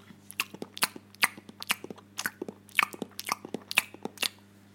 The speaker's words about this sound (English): The rest of you microphone people, it was just a disgusting chewing sound. But they have this chewing fetish that they really appreciate the sound of chewing.